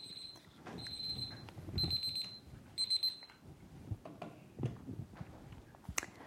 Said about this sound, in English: Sorry about that. Alarm went off.